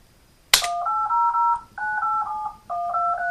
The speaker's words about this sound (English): Okay, so it generated the touch tones for the phone, so you can put your phone up to the speaker and press enter on dial, and it'll generate the touch tones for you.